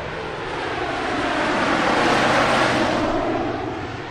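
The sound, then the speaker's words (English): A massive C-130 Hercules air tanker, marked with a big number 3 and based in Wyoming, roars overhead at a landing strip behind a small lead plane during fire season, its broad engine drone swelling to a peak mid-pass and then fading slightly as it moves away, loud with no voices. “Back on a landing strip, I watch as a small lead plane, leaving some puffs of smoke behind it, is followed by a massive C-130 Hercules air tanker.”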